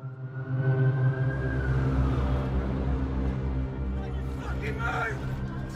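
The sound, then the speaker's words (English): A police car's engine rumbles loudly as the car arrives on the scene and pulls in, its low hum steady with a slight rise in pitch, while muffled voices murmur in the background. “Film of a helicopter above the bridge, then a police car arriving on the scene.”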